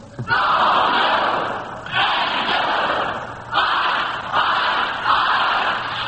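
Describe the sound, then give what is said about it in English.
Friends of the Northwestern quiz team cheer and shout in loud, sustained bursts, four roaring waves in quick succession with brief dips between, energetic like a rowdy crowd rallying behind the team. “Well, that's the Northwestern team, Alan, and back to cheer on them, they've got a few of their friends.”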